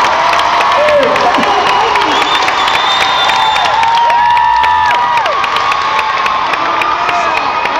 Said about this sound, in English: This is the happiest crowd I've seen in a long time.